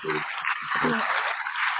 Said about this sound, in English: Okay, that's a little semi-clap or something.